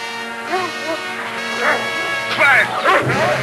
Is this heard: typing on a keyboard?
no